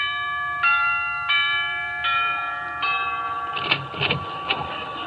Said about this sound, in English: Gee, Sinatra has some house. Well, I'll ring the bell.